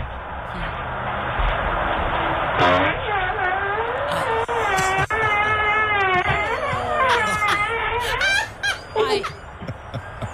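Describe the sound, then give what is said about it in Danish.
A man's long, drawn-out fart, recorded by a video doorbell as he steps out in front of the door, with a buzzy, trumpeting tone that bends up and down in pitch, breaking into a few shorter sputters at the end, heard over a steady background hiss. “og så kan man lette en vind”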